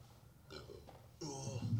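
burp

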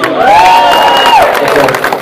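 audience applause and cheering

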